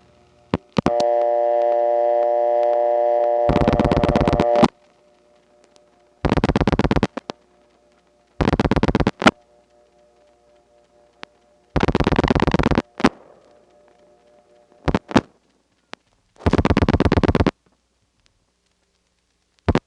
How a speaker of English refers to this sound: here's what a call to a disconnected number would have sounded like in the Trinity step in September 1970.